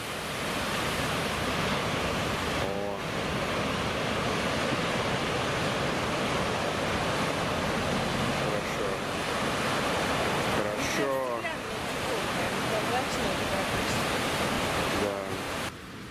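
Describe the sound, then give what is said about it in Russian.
Ocean waves crash and roll onto the shore in a steady, loud, unbroken roar of surf, with brief faint voices surfacing a few times beneath the wash. “Вот из этих окон, друзья, удобно наблюдать за океаном.”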